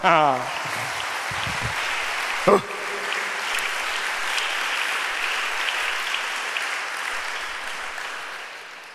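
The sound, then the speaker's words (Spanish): An audience bursts into sustained applause for the Lord, a dense crackle of many hands clapping that holds steady for several seconds, with a brief voice at the start and a sharp knock partway through. “Un aplauso al Señor.”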